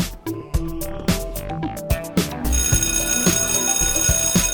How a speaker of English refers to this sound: Oh, that's first bell. We better get going, too, so we're not late.